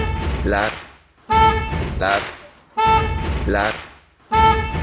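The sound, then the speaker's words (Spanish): Car horns honk in long, loud blasts, repeating about every second and a half, with layered tones that bend in pitch as they overlap, as drivers honk for the sake of honking. Short gaps of quiet separate each round. “Gente que pita por el gusto de pitar.”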